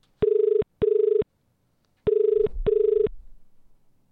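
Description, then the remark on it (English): A phone line ringing as a call is placed to a grandmother: two pairs of short, steady, buzzy mid-pitched tones with a brief pause between the pairs, loud and clear, followed by a faint low rumble as the call connects. “Get her on the phone. Let's call your bubba.”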